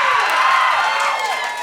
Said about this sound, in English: Thank you so much for applauding my loneliness.